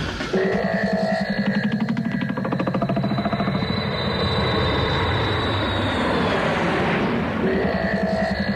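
A loud, steady aircraft engine drone in flight, passing close to the Génie de la Bastille, with a layered mechanical hum and a high whine that slowly glides downward, continuous for the whole stretch with no voices.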